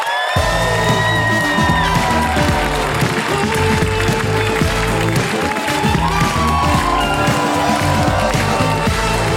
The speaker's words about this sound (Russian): Классный комик приехал из Санкт-Петербурга. Ваши аплодисменты. Давайте встретим его на сцене.